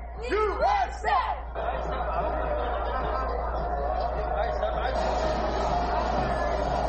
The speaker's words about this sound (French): Vous avez entendu les cris USA.